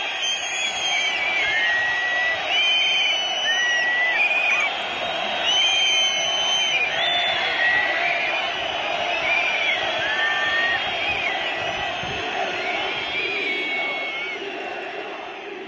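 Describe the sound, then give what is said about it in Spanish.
A large crowd whistles loudly and continuously, with many shrill, rising and falling whistle tones layered over a dense roar of voices, sustained throughout without a break. “Pues fíjate, faltan 5 minutos para las 8 y voy a poner los silbidos.”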